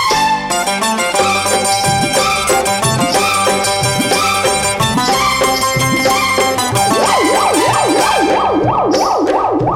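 An ambulance siren wails in quick rising-and-falling sweeps during the final few seconds, layered over loud, busy music that plays throughout.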